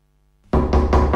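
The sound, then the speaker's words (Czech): Heavy pounding on the door of a ladies' toilet in a bar starts abruptly after a brief quiet moment: about four loud, rapid, evenly spaced, booming blows. “Otevřete ty dveře.”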